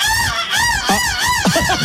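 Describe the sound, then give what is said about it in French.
A contestant in a seagull-cry contest mimics a seagull's cry: loud, nasal squawking calls that rise and fall in pitch, repeated in a wavering run with no pauses and no other sounds. “Écoutez tous les différents candidats, c'est pas mal la mouette.”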